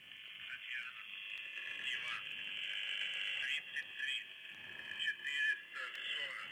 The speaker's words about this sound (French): Voilà, c'est ça qu'on écoute, hein, une espèce de grésillement, des bourdonnements, et puis apparemment des prénoms qui sont...